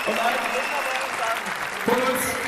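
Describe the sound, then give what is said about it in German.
A crowd at a congress applauds steadily for the volunteer angels who run the talk and the congress, a dense wash of clapping that holds at an even level, with a voice speaking over it partway through. “Und haltet den Applaus für die tollen Engel, die nicht nur diesen Vortrag machen, sondern diesen ganzen Kongress.”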